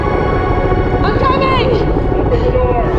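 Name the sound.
helicopter hovering overhead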